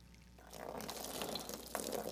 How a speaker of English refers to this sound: by the way, y'all are thinking I'm pouring this stuff on the stage, there actually is a bucket that